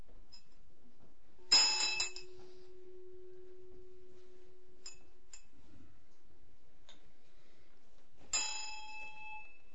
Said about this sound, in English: So this one, see, it doesn't actually, the middle of the thing doesn't hit, but the end of the, it hits the inside of the bell rather than the rim.